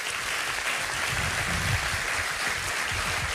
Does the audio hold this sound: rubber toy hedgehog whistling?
no